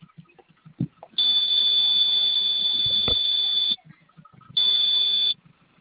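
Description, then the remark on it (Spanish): A vehicle alarm's panic button alert, a harsh, high-pitched buzzer, blares in a steady tone for a couple of seconds, cuts off, then sounds again in a shorter burst, with faint background noise between. “¿Requiere también el botón de pánico o nada más con lo de los bloqueos?”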